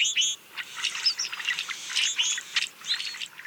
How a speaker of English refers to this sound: These brewer's blackbirds wander around the countryside in flocks after the breeding season. They feed on the ground, and whenever a predator approaches, members of the flock sound the alarm and take flight.